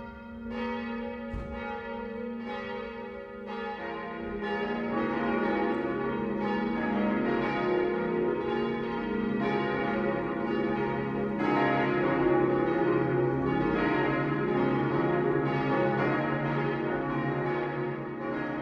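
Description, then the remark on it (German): Several church bells of the town parish church in Eckenfelden peal together for the noon ringing at 12 o'clock in a dense, continuous ringing, swelling louder after a few seconds and sustaining a rich, overlapping wash of tones with no voices. “Das Mittagsläuten kommt heute von der Stadtpfarrkirche Eckenfelden.”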